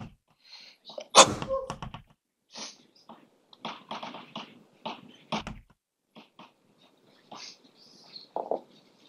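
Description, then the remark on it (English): A single loud, sharp sneeze bursts out near the start, followed by a string of softer short sniffs and clicks scattered across the quiet. “Bless you.”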